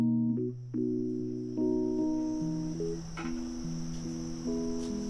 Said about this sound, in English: Eight hours later, at 5 a.m. Friday morning, it's still dark outside. Crickets are chirping in the few trees pocking the edges of the parking lot.